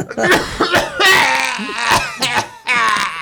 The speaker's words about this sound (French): Vous allez tousser encore.